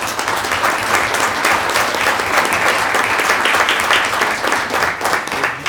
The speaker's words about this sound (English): So each board meeting, we recognize the accomplishments of individual and team of our students and staff, and it's quite obvious tonight it is Lady Warrior Night here at the Manasquan School District. How about a round of applause for that?